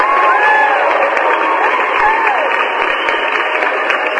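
A crowd applauds and cheers steadily, a dense wash of clapping with a few rising whoops and shouts breaking through, loud and sustained for the whole stretch.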